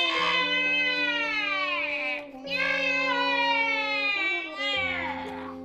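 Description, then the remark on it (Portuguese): A newborn baby boy wails loudly in long, high-pitched cries, three sustained bursts separated by short gasping breaths, with no one talking over it. “Um ano depois, um grito irrompe o ar.”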